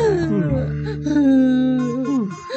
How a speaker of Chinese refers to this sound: 小熊和小猪只有急得大哭起来。